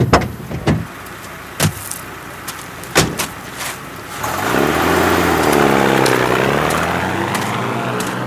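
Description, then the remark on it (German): A few sharp clunks and knocks, then a car engine rumbles in, its pitch sinking and swelling as the vehicle slows and pulls up at an excavation camp. No one speaks. “Danke. Sie können hier halten.”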